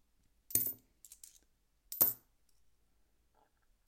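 Two bright metallic clinks of $1 coins being set down while being sorted and checked, spaced about a second and a half apart, crisp, with faint small taps between them and near silence otherwise.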